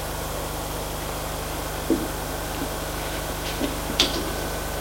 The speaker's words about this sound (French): Appuie sur le bouton. Il entre dans l'ascenseur. Appuie sur le bouton pour aller au sous-sol.